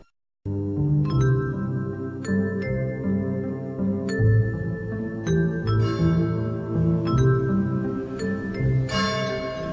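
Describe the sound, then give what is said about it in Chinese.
Large, far-carrying bells toll across the campus of Sansheng College in a slow, irregular series of strikes, each ringing out with a long, humming decay that overlaps the next into a continuous resonant wash. No voices are heard. “2002年3月23日，悠远的钟声回响在三圣学院的校园”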